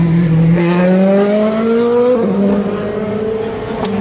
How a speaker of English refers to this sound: The pace at which they come into Tête Rouge is extraordinary, but at the moment, because they're in a slow zone, for the first time I've got a chance to seriously analyse the cars as they go by. Another LMP2.